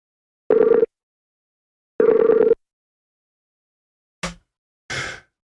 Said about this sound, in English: It's ringing. Paul, answer the phone.